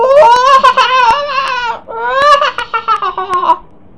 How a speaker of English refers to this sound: A hyena laughs.